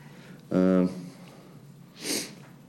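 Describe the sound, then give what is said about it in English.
A short, nasal honk, then after a pause a quick breathy sniff as a person with a cold sniffles into a handkerchief. No talking. “I woke up with a cold yesterday, so you'll see me take my hanky out on occasion.”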